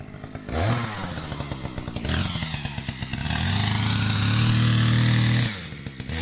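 A loud chainsaw roars and revs, its engine pitch rising and straining as it cuts through soft, low-density ancient rock to find fossils, with gritty clatter throughout and no voices.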